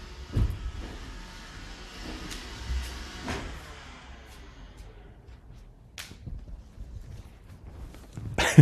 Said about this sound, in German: lustig, mein Staubsaugerroboter startet gerade weg, Entschuldigung.